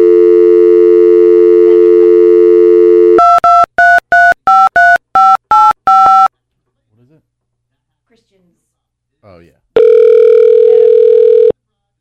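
A steady telephone dial tone hums for a few seconds as a call is placed, then a rapid string of about eight touch-tone beeps dials a number, followed by a pause and a single long ringing tone.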